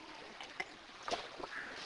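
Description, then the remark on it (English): Someone takes a drink of water: soft sips and faint liquid sloshing, with a few brief gulping sounds over a quiet background and no talking. “One more drink here.”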